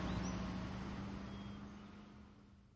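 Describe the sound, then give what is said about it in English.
A truck engine rumbles with a steady low drone, then slowly fades as the driver, having dropped the last net on the ground, gets back in the truck and drives off. No voices are heard. “The driver drops the last net on the ground, gets back in the truck and drives off.”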